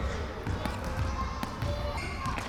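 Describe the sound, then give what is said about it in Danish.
Balls of every kind thud irregularly on a shiny sports hall floor during a children's Saturday play session, the bounces echoing in the hall, with a murmur of voices, shouts from a game of tag and children's screams underneath. “Når man slår dørene op, hører man straks bolde af enhver slags hoppe på det blanke halvgulv.”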